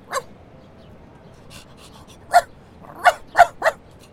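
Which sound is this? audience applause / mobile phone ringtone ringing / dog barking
dog barking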